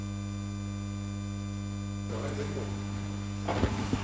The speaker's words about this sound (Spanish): Somos modernos, hay un ventilador.